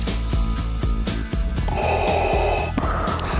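Heavy, mechanical respirator breathing from a film, loud, with a raspy low rumble and a brighter hissing stretch midway like one drawn breath through a mask. No one speaks.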